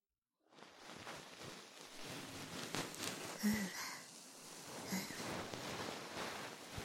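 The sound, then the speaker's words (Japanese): A bonten, a fluffy cotton ear-cleaning puff, brushes right against the ear in a soft, continuous rustle that swells and eases gently over several seconds, with no talking. “それじゃ、最後は梵天でふわふわしてやろう。”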